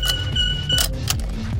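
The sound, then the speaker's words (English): Metallic clicks and rattles of a seatbelt being forced into its buckle in an old Taxi Quick car, a few sharp attempts over a low, steady car-interior rumble. “Yeah, you just gotta force it in the buckle.”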